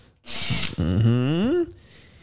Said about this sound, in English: So, this is a drill.